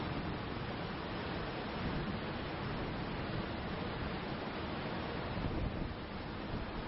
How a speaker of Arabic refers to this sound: شعاع يجد طريقه بين السحب الكثيفة ليودع يوم الجزيرة التي ربما يغادرها الضوء، لكن صوت الموج الهادر يؤنس تلك الليلة.